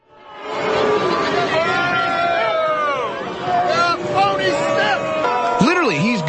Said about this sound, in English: He gets heckled and booed.